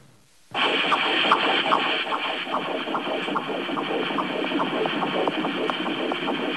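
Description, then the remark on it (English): A fetal heartbeat on a Doppler monitor: fast, steady whooshing pulses repeating over a constant static-like hiss that starts abruptly and fills the whole recording, with no talking. “When you hear these two heartbeats, can you tell the difference?”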